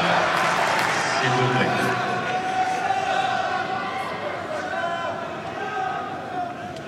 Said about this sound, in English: And the Holger chants have started again. That should help him.